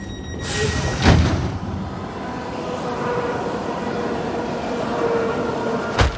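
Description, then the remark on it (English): A train rumbles steadily at a station, with a hiss of air at the start and a couple of sharp metallic clanks, one early and one at the end. No one speaks. “Come on, give me your stuff and hang up the phone or you'll miss the train.”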